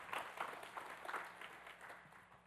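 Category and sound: crowd, audience clapping hands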